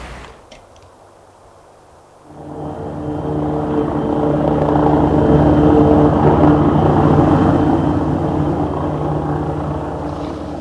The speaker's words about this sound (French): Il prend l'avion pour les Indes, un avion supersonique plus, fabriqué par le groupe Juntou. Cet avion a remplacé le pauvre Concorde. Il vole deux fois plus vite, il est cinq fois plus grand, ce qui fait qu'il est plus rentable.